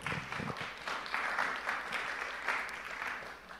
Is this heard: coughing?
no